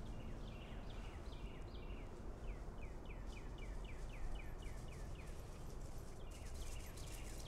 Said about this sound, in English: Birds singing. And of course the dogs are playing. It's a Carolina Cup day out here in Camden Land.